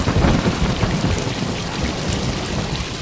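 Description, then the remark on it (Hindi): Heavy rain pours down in a dense, steady hiss, with a deep rumble of thunder rolling underneath, strongest at the start. No voices are heard. “अब इतनी बारिश में हम यहाँ नहीं रुक सकते, अब हम जा रहे, अब आप जानो और आपका ऊपर वाला जाने।”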